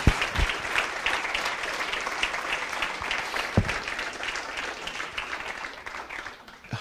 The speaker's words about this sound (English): A round of applause for our teens and their work with us.